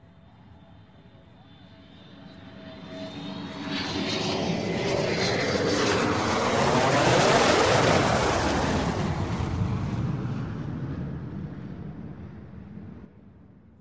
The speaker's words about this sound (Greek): Αεροπλάνο.